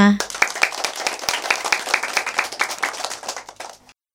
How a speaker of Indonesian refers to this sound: Tepuk tangan untuk semua.